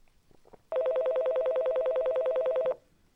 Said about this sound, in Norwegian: Da ringer jeg. Faen, han er jævla ringetone, at jeg er så dritlenge.